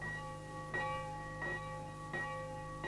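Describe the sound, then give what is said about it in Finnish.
Bells ring out as an alarm for a fire in the town, in a steady, insistent rhythm, about four strong clangs in three seconds, each one's tone lingering and overlapping the next. No voices, just the continuous peal. “Kuuletko? Kellot soivat. Kaupungissa on tulipalo.”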